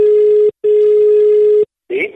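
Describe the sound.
A telephone call placed live on Radio Toscana ringing out: two steady, buzzing ringback tones, a short one and then a longer one, separated by a brief pause, followed by a short burst of line noise or a voice.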